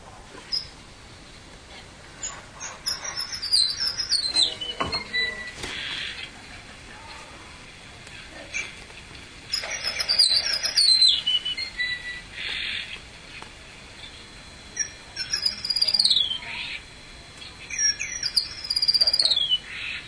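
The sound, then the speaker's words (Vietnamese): A small sparrow-type songbird, called ca lăng tần già, sings several high, descending trilled phrases separated by pauses, with harsh, raspy notes at the end of the phrases; no one is talking. “Quý vị muốn nghe chim ca lăng tần già, nghe tiếng ca lăng tần già, nghe đó, bây giờ là đầu tiên quý vị được nghe đó không?”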